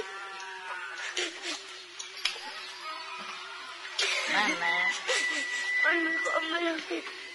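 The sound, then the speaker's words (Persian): A boy cries and whimpers, with wavering, bleating sobs that break into short shaky gasps and grow louder and more strained toward the end. “ماما تو گریه نکن دیگه بسر. چرا گریه میکنی؟”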